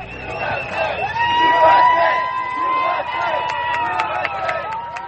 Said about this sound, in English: Those shouts were from people who support gay marriage. They were reacting to the court's decision to permit same-sex married couples to receive federal tax, health, and retirement benefits.